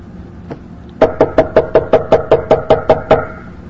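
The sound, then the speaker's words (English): One soft tap, then a rapid, evenly spaced run of about eleven firm, loud knocks on a door, with no voices. “Could you go to the door, Flavius, and see who that is?”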